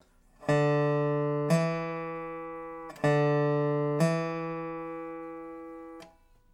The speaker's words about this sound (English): A hammer-on, like the slide, gives you two notes while only picking the string once. We're going to start by playing the fourth string open, then hammer-on with the bar down onto the second fret to produce that second fret sound.